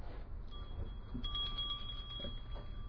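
A small bell is struck and rings on with a steady, bright tone that hangs in the air over a low background rumble.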